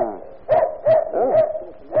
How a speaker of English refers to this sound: Anyone hear that dog barking last night?